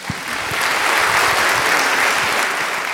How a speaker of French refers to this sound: Merci beaucoup. Je crois qu'on peut applaudir maintenant.